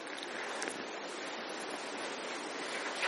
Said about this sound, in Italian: Stiamo ad ascoltare il rumore dell'acqua che scorre, la serenità che questo ci porta, il senso di protezione, di sapere che in quel momento non abbiamo da temere nessuno.